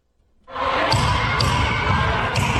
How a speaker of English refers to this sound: Police using tear gas to break up a crowd of protesters banging on the doors of the state capitol building.